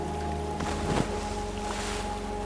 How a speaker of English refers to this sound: Just as he reached his hand for the night crawlers, that's when we heard the splash.